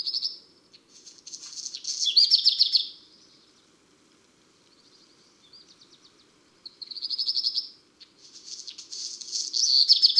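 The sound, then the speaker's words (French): A black redstart sings a regional dialect variant of its song in repeated bursts, each phrase opening with a dry, buzzy, insect-like rasp resembling stridulation before a brighter warble, clear, with quiet pauses between phrases. “Voici un autre rouge-queue au chant un peu différent. Et la première partie de son chant ressemble plus à une stridulation.”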